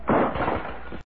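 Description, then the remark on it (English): A sudden loud crash as a lamp hits the floor after somebody kicks the table during a card game, glass shattering in a dense burst that rings briefly and then cuts off abruptly, with no voices. “Somebody kicked the table and the lamp crashed to the floor.”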